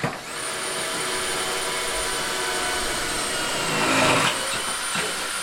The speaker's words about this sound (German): Akimov nimmt uns mit auf eine Baustelle seines Unternehmens.